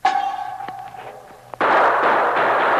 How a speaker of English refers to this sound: Three guns fired at the sound, and the sergeant fired at the gun flash.